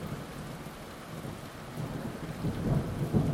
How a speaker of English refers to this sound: It's probably not the safest thing to do, swimming in a storm like this, but wow, you've got to do it.